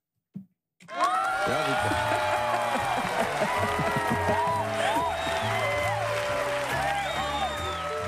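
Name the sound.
audience applause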